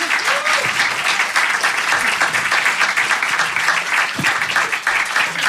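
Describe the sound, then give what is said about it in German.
An audience applauds the winning of the Preis der Deutschen Schallplattenkritik 2016, a dense wash of many hands clapping steadily at a full level throughout, with a few brief voice fragments poking through the noise. “Das ist ein Applaus wert. Bitte schön nochmal.”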